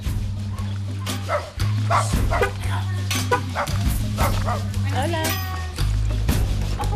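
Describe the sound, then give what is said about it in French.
An old, mangy dog scratching itself on the steps of a house barks and yips in short, irregular bursts, with a whimper mixed in, over a steady low rumbling hum and people talking. “Et un vieux chien tout pelé qui se gratte sur les marches de la maison.”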